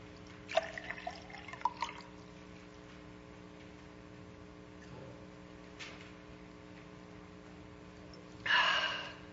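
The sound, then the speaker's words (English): Water trickles and clinks into a glass over a low steady hum, then after a quiet pause comes a short, breathy gasp as someone finishes a drink. “Water.”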